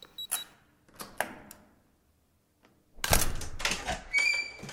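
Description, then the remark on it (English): A few short electronic beeps and clicks from a keypad, a pause, then a loud mechanical whir and rush of a door unlocking and sliding open, ending with a bright tone. “It has a key code on the door. Oh, please. Door open.”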